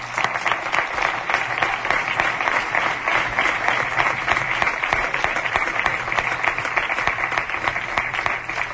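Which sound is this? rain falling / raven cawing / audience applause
audience applause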